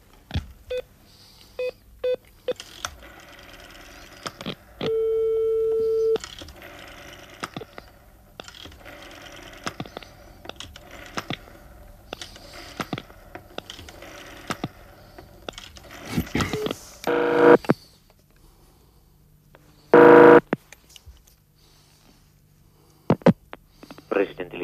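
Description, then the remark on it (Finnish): A telephone number being dialed by a radio news reporter calling the President of the Republic, Koivisto, at 7 a.m. on the morning after the presidential election: a series of short clicks and mechanical ticks, with a couple of steady tones and bursts, fairly clear, and no talking. “tarttui puhelimen kahvaan. Mutta kello on jo 7. Nyt me voimme soittaa tasavallan presidentille.”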